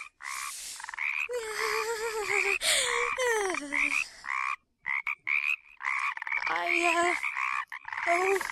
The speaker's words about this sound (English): Oh, wow. Lots of dozens, hundreds on the street. Frogs.